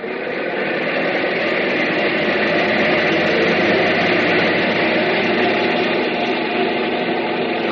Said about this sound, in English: That's why we have these captive engines. Engines that don't ever get a chance to fly. No glorious destiny for these babies. They just run their hearts out on a test block. Bring number one engine up to maximum RPM.